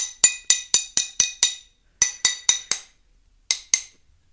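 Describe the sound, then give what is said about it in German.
Sharp taps on scored glass, made after cutting it and before breaking it, ring out in a steady rhythm: a run of six, a short pause, four more, then two final taps, each leaving a brief bright ring with no one talking. “Das war der Schnitt und jetzt kommt das Klopfen.”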